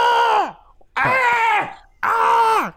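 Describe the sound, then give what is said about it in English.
Three loud, drawn-out excited screams from one voice, each lasting about half a second with a falling pitch at the end and short gaps between them. “I feel like that scream was a spoiler too”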